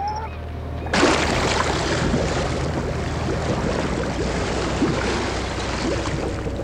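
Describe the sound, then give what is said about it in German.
After a faint whine, a loud winch motor on a ship suddenly kicks in and runs steadily with a deep hum, hoisting a submersible over the sea, mixed with churning, splashing water. No one speaks. “Mr. Evans warf den Motor an und die Seilwinde hob die Deep Quest ächzend in die Höhe, bis sie über dem Wasser schwebte”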